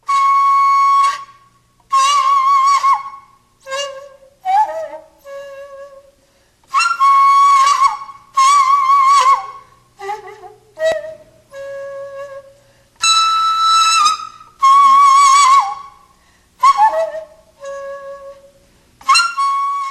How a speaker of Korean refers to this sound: 소금은 서양 음악의 피콜로처럼 높은 음역을 담당을 해서 아이들 동요하거나 이럴 때 요즘에 소금으로 많이 반주를 하더라고요. 네. 밝은 음색이라서. 네. 부는 방법은 둘 다 부는 방법은 같아요. 다 옆으로 네. 이렇게 부는군요. 그러면 두 악기 대금과 소금의 소리를 좀 비교해서 들어볼게요.